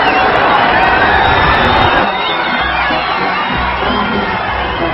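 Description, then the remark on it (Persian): A huge crowd shouts and cheers in a continuous, dense roar as the Leader's car reaches each part of the crowd. The roar is loud and eases slightly after a couple of seconds but never breaks. “این صدای فریادی که میشنوید لحظه یه که ماشین رهبر به هر بخشی از جمعیت میرسه.”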